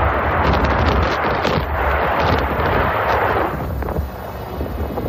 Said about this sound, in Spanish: Imagínate estar con tu familia, escuchar esas explosiones diarias, ver que cada vez la diana y el objetivo está más cerca.